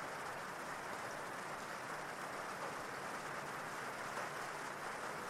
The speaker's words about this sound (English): And even if you didn't hear it consciously with all this rain, your unconscious mind knows exactly what they said.